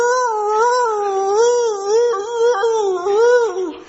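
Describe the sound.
A person imitates a deaf dog's howl in one long, loud, wavering note that rises and dips for about four seconds, with no other sounds.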